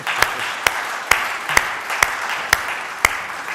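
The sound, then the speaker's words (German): A church audience applauds the team who set up an Easter garden display in five hours, in a steady wash of clapping, with one sharper clap standing out at a regular beat about twice a second. No one speaks. “Kriegt doch mal einen Applaus dafür.”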